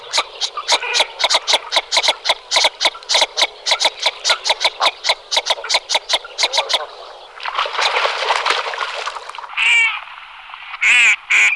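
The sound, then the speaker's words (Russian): A duck, not a mallard but one with an oddly built bill, gives a long rapid run of loud, clipped calls, followed by a harsher rasping stretch and a few drawn-out, higher calls, with no talking. “Так вот, эта утка отличается от той же самой кряквы, которую, наверное, все знают, я надеюсь, одним таким важным характерным признаком.”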